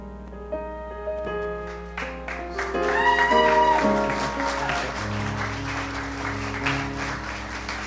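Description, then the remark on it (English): An audience at a baptism service bursts into applause for those just baptized after about a second, the clapping swelling and holding steady to the end, with sustained musical chords playing underneath throughout. “Let's give them all a hand.”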